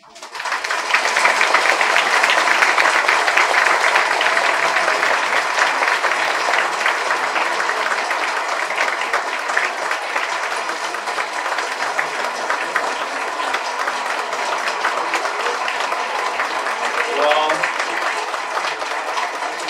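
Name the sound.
audience applauding hard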